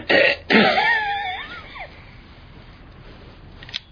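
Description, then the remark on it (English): A patient gives two harsh coughs in quick succession on a doctor's instruction during an examination, followed by a raspy throat-clearing rattle that trails off into near silence. “Now cough.”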